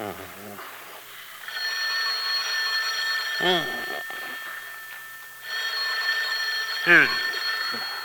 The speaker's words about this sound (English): Answer the phone, Henry. Henry. It's the phone, Fanny.